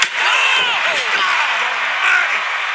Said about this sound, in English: He went long with the steel chair to the face of the heavyweight champion. Man, did you hear that sound? That was serious.